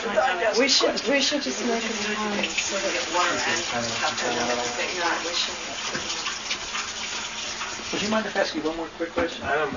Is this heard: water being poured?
yes